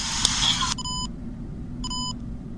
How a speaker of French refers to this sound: Voilà, ces deux bips nous signifient la fin de l'enregistrement.